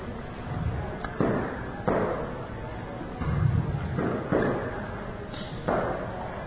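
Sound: firecrackers exploding outside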